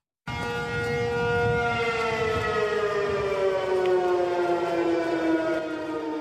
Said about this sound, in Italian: le manovre coinvolgono anche la popolazione civile e oggi sull'isola sono risuonate le sirene antiaeree, le strade si sono svuotate e il governo ha rallentato la rete internet.